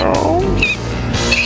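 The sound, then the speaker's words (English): A person's voice mimics a cat, producing a loud, drawn-out meow with a sliding pitch, followed by a brief second yowl. No speech is heard. “You do have the best meow in the game”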